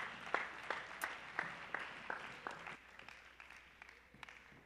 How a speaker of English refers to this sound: Hallelujah. Let's just give another hand clap to Jesus.